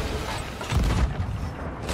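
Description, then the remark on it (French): A deep, booming cannon blast from a video game lands just under a second in, followed by a lingering low rumble and some clanking mechanical noise, with no one speaking. “Tout au canon.”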